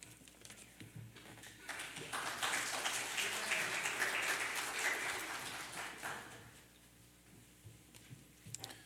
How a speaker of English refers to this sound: You guys are good Methodists. You went back to clapping instead of shouting.